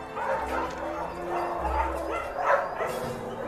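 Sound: dogs barking and whimpering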